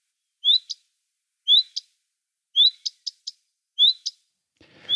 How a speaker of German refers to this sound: Und dazu im Vergleich mal der Gartenrotschwanz.